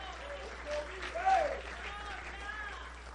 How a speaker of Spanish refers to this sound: Aquí no estamos buscando la gloria del hombre, sino de glorificar a nuestro Señor Jesucristo, digno de ser alabado. ¿Cuánto le dan un aplauso a Dios?